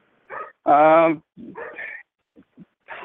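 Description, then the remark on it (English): One loud, drawn-out, tonal dog bark, set among shorter, softer yips or voice-like sounds before and after it. “It only barks when Koreans and Mexicans are in the vicinity.”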